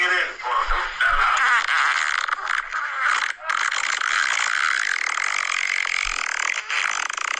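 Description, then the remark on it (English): A long, sputtering fart sound that runs for about seven seconds, raspy and buzzing with a wavering pitch and a few brief catches. It is fairly loud, with no talking over it. “I wish I could fart as long as you.”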